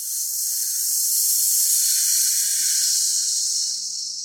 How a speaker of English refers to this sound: Inhale, expanding the belly. Exhale, belly button towards the spine. Beautiful.